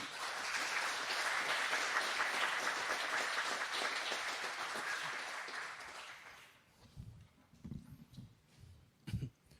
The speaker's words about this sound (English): I think that is super cool, and I think the network team should get an applause for that.